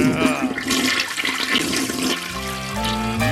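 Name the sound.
toilet flushing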